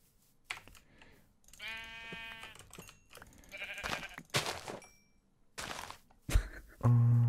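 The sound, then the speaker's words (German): A video-game sheep bleats once, a wavering mid-pitched cry, amid scattered sharp keyboard clicks and taps, with a low buzzing tone at the end; no one speaks. “So, so da vorne sind noch ein paar Schafe, ey, bitte reichen die.”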